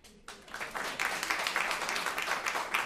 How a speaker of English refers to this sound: Or if you want to take a minute to think, who here thinks it's okay for the local business to swipe straws from McDonald's? Go ahead and clap. Not much.